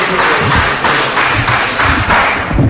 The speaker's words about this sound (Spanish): Está prohibido aplaudir en el hemiciclo y ruego silencio y respeto a las intervenciones de todos los... Interrupciones por parte del público que acudía a la sesión de ayer, miembros de asociaciones memorísticas que protestaban por esta decisión,